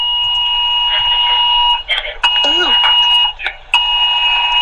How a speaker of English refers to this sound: So here at Wynn Windsor, we've had the emergency weather alerts going off saying flash flooding, it's life threatening, like don't travel.